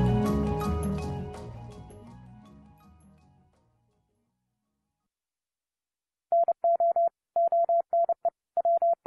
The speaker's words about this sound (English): That's a Morse code message, but it's not an SOS from a distressed ship at sea. Here is the English translation. It was the best of times. It was the worst of times. It was the age of wisdom. It was the age of foolishness.